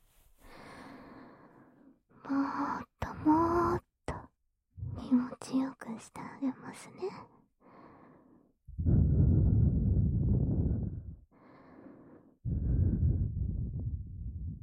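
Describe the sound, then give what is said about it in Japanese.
Soft whispering gives way to two long, loud breaths blown into the other ear against the microphone, each a rushing airy gust lasting a couple of seconds. “ほら、こっちも吐息だけでビクビクしちゃう。”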